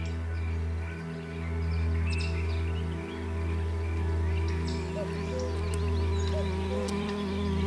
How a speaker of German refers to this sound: Du hörst zu, wie die Bienen summen.